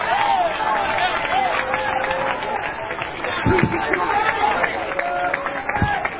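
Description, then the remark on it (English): An audience claps their hands in a dense, steady patter that fills the whole stretch, with sustained tones and crowd voices mixed underneath. “Oh, you're clapping your hands, but you still don't have a concept.”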